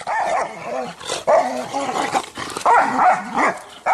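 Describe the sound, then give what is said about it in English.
Several dogs snarl, bark and yelp in a chaotic dog fight, with repeated loud bursts of aggressive barking and growling over about four seconds. “If you search YouTube, you can easily find scenes like this. Dogs fighting.”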